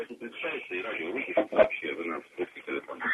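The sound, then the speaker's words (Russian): A radio broadcast plays in the background of a caller's telephone line from the right bank of Krasnoyarsk, its voices thin and tinny, talking continuously at a steady, moderate level for a few seconds. “А можно вас попросить представиться и радио выключить вообще? Вы нас в трубке телефона.”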